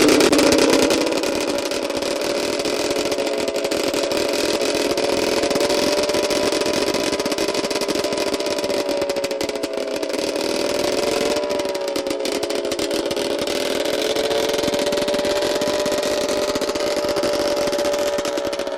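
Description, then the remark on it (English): A loud, clattery engine of a car that looks like a Citroen runs steadily for the whole stretch, a rough buzzing drone with harmonic tones that hold nearly constant, with no one speaking. “That was another V8, but there's another one I've got here which was much more clattery.”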